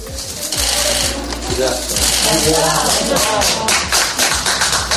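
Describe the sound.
A crowd applauds steadily for about five seconds, a dense, loud patter of many hands clapping, with voices calling out and cheering underneath.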